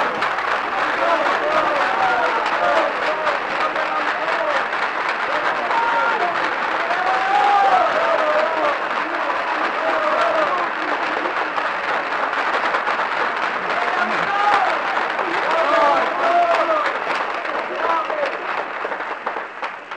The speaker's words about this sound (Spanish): Señores, con profunda emoción agradezco estos gentiles aplausos que repercuten intensamente en mi ánimo de modesto autor provinciano cuyos primeros pasos en el teatro hallan aquí tan generoso estímulo.